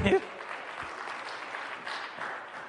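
A crowd claps steadily, a dense, even patter of many hands that holds at a moderate level for a few seconds after a brief louder burst at the start.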